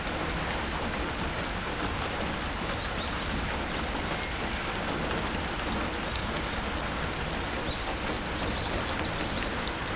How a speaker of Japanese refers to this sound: 突然の雨に見舞われたあなたは、木造の古い建物のもとで雨宿りをしていました。